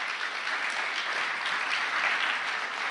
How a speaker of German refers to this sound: Komm doch bitte mal nach vorne. Ein Applaus für einen guten Freund.